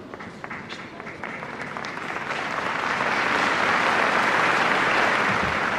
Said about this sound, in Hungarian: Hirtelen azt hittük, hogy ma elmarad a tapsvihar, amivel megszokták köszönni Ferenc pápa tanítását, áldását, de nem maradt el azért teljesen.